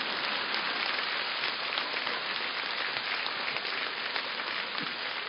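A crowd applauds steadily, many hands clapping into a dense, even crackle that holds at the same loudness throughout, with no voices over it.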